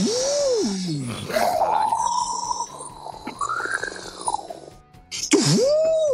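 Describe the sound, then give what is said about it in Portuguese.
A person vocally imitates the rumbling of a hotel minibar fridge, producing a continuous gargly groan with wavering, sliding pitch and a low pulsing buzz underneath, loud, lasting several seconds. “Eu fui desligar o frigobar porque ele fica fazendo barulho assim.”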